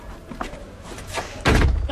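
A door opens with a sudden, heavy thud near the end, a loud knock of wood that lingers briefly, after a quiet stretch of faint rustling.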